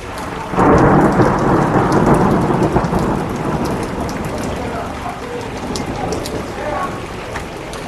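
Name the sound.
thunder rumbling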